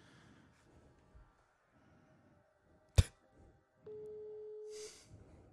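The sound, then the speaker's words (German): A telephone ringback tone: after a sharp click, a single steady, fairly loud ring tone sounds for about a second, then stops, with faint background noise and no answer. “Der geht nicht ran.”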